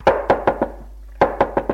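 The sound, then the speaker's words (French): Two quick bursts of four sharp knocks as a woman knocks on an attic door, separated by a short pause, each rap loud and hollow with no voices. “Elle frappe à la porte.”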